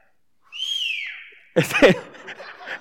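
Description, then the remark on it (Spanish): A single loud, sustained human whistle, like a shepherd calling a sheepdog, that swoops up and then slides down in pitch for about a second, followed immediately by laughter and chatter from people. “Un chiflido así fuerte,”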